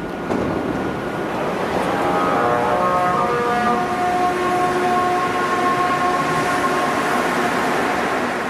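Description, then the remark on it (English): A Montreal Metro MR63 train accelerates under a steady, loud rumble, its motors producing sustained musical tones like a bowed cello that emerge after a couple of seconds and hold on. No one speaks. “When this train leaves or arrives at different stations, the sound of a cello arises from the metro.”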